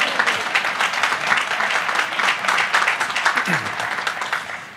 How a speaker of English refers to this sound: My mom and dad are seated in the third row. You can clap for my parents.